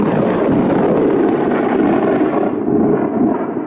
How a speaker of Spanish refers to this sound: ¡Oh! Bah, seguro que esos truenos no son más que sus propios pedos.